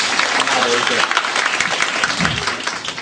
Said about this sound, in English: Can we have a round of applause for him?